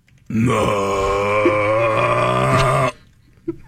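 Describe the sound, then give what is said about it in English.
A person imitates a bear's growl with one long, loud, low guttural sound that holds steady for about two and a half seconds before cutting off, followed by a short soft noise. “What does a bear sound like? I'm asking you.”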